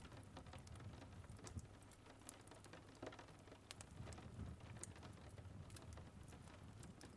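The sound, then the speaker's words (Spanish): Quiet, steady rain on a cold day pattering against window glass, with scattered sharper drop taps over a soft continuous hiss and a low background rumble. No voices. “Y después te acercas a observar la lluvia a través del frío cristal, mientras observas cómo las pequeñas gotas golpean la ventana.”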